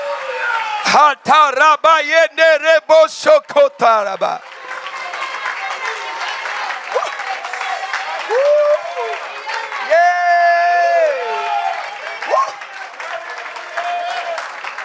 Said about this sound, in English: Oh, clap your hands, all ye people, and shout unto God.